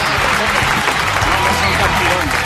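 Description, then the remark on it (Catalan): A crowd applauds loudly and steadily for FC Barcelona after its 5-0 win in its Champions League debut, a dense wash of many hands clapping at once with indistinct voices mixed in, holding an even level for the whole stretch. “Un aplaudiment per Barça!”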